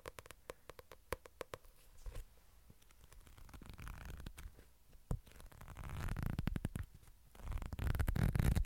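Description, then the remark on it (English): Handling of a paperback manga book, with soft papery rustles and crisp flicks of pages turning at an irregular pace, growing busier toward the end. No one speaks. “Books. Let me get a book. My definition of book is a manga, so...”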